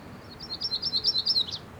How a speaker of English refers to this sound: And that was a myrtle warbler.